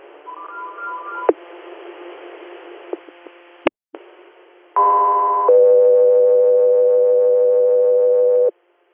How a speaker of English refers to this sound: Three, stand by for Tones.